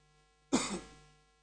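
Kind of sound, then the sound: human body sound, throat clearing and coughing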